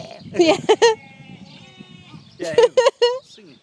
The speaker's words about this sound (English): Singing sheep. They do, they sing. That sounded very sad. What a great noise.